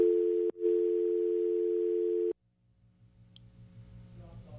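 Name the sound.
telephone dial tone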